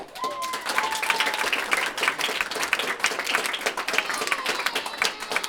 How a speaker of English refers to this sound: Board members ultimately voted 7-2 in favor of letting Aurora Borealis add 9th and 10th grades. The vote was met with cheers and applause from the audience.